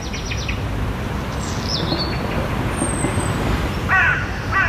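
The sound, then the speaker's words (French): Birds chirp and call in short bursts over a steady rumble of city traffic, with a few harsh crow-like caws near the end and a thin high whistle passing through; recorded near a studio, the birdsong mixing with the noise of the city and human activity. “Le chant des oiseaux, celui-ci est enregistré près de notre studio qui se mêle au bruit de la ville, à notre activité.”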